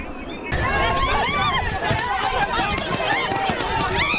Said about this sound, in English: The crowd runs as canisters of gas hit the ground off Laguna Road, where protesters have been facing off with Homeland Security officers carrying out an operation at a local farm.